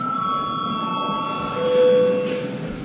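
A bell rings in a steady, sustained electronic tone for about three seconds, its pitch holding evenly, with a second lower tone joining partway through over a low murmur of background noise. It is rung to call a session break, with registration mode requested.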